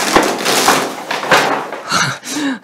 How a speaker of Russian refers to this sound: Как интересно. Звук был интересный. Всего-навсего упал плакат под тяжестью своих грехов. Это плакат журнала «Дилетант».